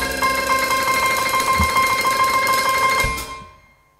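An alarm clock rings with a loud, rapid metallic trill that holds steady for about three seconds, then stops and its ringing fades away. No voices are heard.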